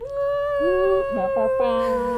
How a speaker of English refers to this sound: Air horn.